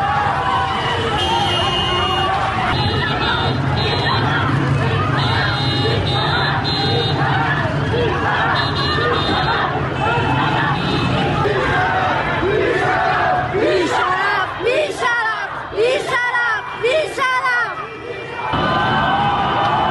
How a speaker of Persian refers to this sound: جمعیت بزرگی در برابر بیمارستان کسری جمع شدند. اعتراض مردمی با بوق میدان آرژانتین بیمارستان کسری.